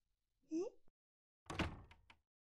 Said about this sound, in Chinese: 师傅，你干嘛关门啊？大白天的，让人看见多不好啊！